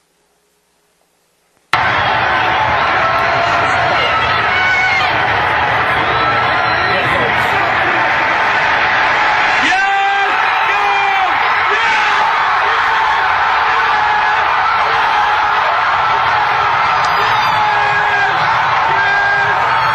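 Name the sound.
stadium crowd cheering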